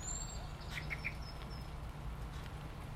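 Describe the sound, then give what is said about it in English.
A blackbird, calling at magpies on adjacent rooftops, gives a quick run of three sharp, high alarm notes, followed by fainter scattered calls, all over a steady hiss and low rumble, on a rainy morning. “Blackbird disapproves of magpies on adjacent rooftops.”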